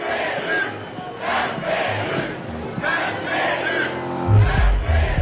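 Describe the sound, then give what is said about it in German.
A large protest crowd in Budapest, Hungary, shouts "Now is the time" in loud, rhythmic bursts of chanting, roughly once a second, with a dense wash of voices underneath and a swell of applause and cheering toward the end as it greets Peter Modior. “Jetzt, rufen sie und begrüßen mit lautem Beifall Peter Modior, der zu ihnen spricht und Viktor Orbán herausfordert.”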